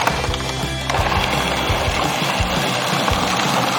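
A blender whirs loudly and steadily, blending grated carrot, rolled oats, coconut, dried cranberries, sultanas, chopped dates and a touch of water into a carrot cake mix, its motor droning with an uneven, churning rattle as the contents knock around. No one speaks.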